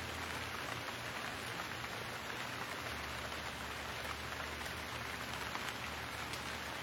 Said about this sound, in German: Höre, wie die Tropfen zu einer Sinfonie des Regens werden.